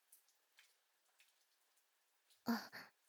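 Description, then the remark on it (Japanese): Rain picks up: faint, scattered raindrops patter at first, then a couple of louder, splashing bursts of heavier rain arrive near the end. No one speaks. “あ、雨、強くなってきちゃいましたね。”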